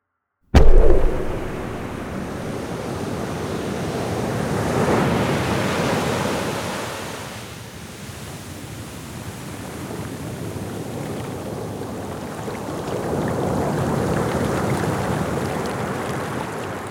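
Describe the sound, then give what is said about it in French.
Ocean waves roar and wash steadily between two sea cliffs, the Pointe du Raz and the Pointe du Vent, a dense rushing surf that swells, eases off in the middle, then builds again. No voices, just the continuous churn of water. “Face à l'océan, deux falaises nous entourent, la pointe du Raz et la pointe du Vent.”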